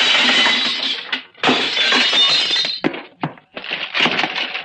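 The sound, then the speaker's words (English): Loud crashing and smashing as an X-ray machine is broken, with glass shattering in several bursts, bright scattered tinkling debris between heavy impacts, continuing for a few seconds with brief pauses. “Watch out for the flying glass, sailor.”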